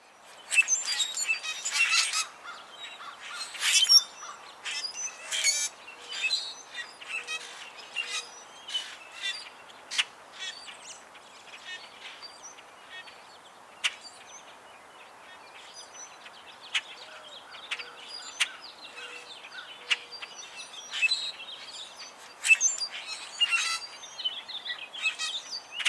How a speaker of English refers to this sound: This week's bird is the common grackle.